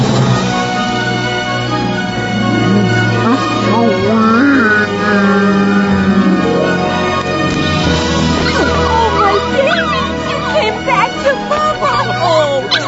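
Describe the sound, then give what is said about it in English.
A dog yips and whimpers excitedly and loudly, in a continuous string of high, wavering cries with occasional sharper barks, over a steady low background hum. “That dog loves you.”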